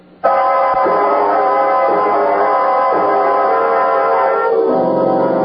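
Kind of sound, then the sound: vehicle, train running with horn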